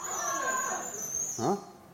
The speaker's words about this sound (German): Ah? Oder stört sich das Geräusch? Für das Geräusch kann ich nichts. Ich kann mal mit dem Ölkännchen kommen. Das nächste Mal. Vielleicht quietscht es dann nicht so.